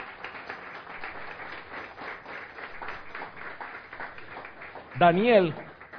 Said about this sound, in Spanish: ¿Cuántos dan un aplauso a Dios, hermanos santos?